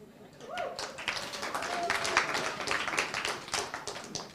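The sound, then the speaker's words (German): An audience applauds steadily for several seconds at the start of a sermon, a dense wash of many hands clapping at moderate volume, with faint voices mixed in underneath. “Also ich mache die Arbeit, er kriegt den Applaus.”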